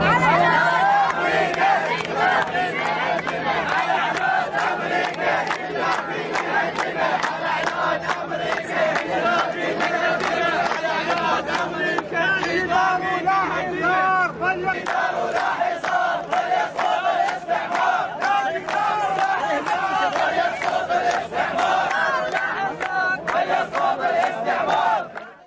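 protest crowd chanting

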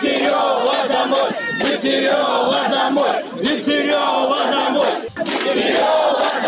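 protest crowd chanting

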